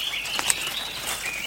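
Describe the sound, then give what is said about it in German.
High, thin bird calls chirp in a jungle over a steady hiss of dense ambience, with a few sharp tweets standing out briefly amid a busy, humming background, no one speaking. “Könnt ihr schon die Vögel hören?”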